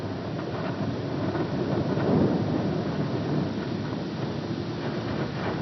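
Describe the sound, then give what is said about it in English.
Antarctic ice cracking as a steady, deep rumbling roar laced with faint crackles and pops, swelling slightly midway and holding fairly loud throughout, with no voices. “The ice cracking in Antarctica.”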